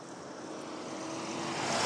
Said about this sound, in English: And another vehicle flying down.